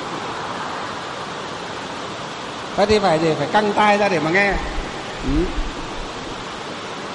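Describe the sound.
A steady, dense hiss of heavy rain pours without pause, a broad wash of noise. A man's voice speaks briefly over it partway through, then the downpour continues alone.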